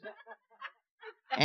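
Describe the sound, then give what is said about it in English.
A loud, nasal sheep bleat bursts in at the very end, preceded by a few short, soft vocal sounds like muffled snickers. “Got my own little herd there.”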